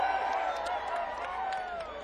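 A crowd cheers and claps for a band in a steady, loud roar, with a dense wash of voices and scattered sharp claps running through the whole stretch without a break.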